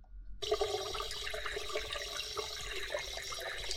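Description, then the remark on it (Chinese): Water gushes from a faucet turned on before a bath in a bathtub, after a brief moment of quiet, a steady, continuous rushing stream that stays even throughout, with no voices. “我们先把水龙头打开。”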